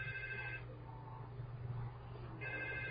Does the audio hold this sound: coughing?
no